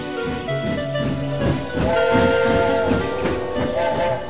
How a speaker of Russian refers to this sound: Протяжный хрипловатый гудок паровоза разбудил Савву. Колеса все еще пытались убаюкивать его мерным перестуком.